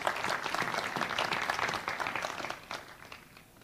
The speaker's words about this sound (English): I'd like a little ripple of applause for our pastor's administrator.